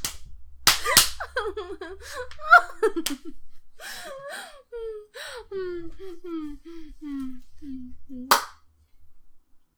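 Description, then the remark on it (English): Sharp slaps from a leather-covered scabbard crack out: two in quick succession near the start and a single loud one later, with a voice gasping and whimpering in between. “It's a leather-covered scabbard.”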